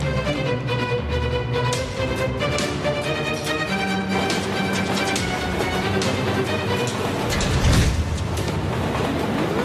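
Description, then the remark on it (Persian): A train rumbles steadily along the rails with a continuous loud clatter and hum, a bit of rhythmic clacking, and a brief surge of noise near the end. No one speaks. “سرعت قطار رو میتونی زیاد کنی؟”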